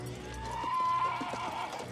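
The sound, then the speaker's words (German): Horses whinny amid a busy, crowded scene, with the uneven knock of hooves mixed into a steady background rumble, as settlers mount their horses shortly before noon on 22 April 1889 and line up at a barrier, the impatient animals barely restrainable. “Kurz vor Mittag besteigen die Boomer ihre Pferde und reihen sich an der Absperrung auf wie Perlen an einer Schnur.”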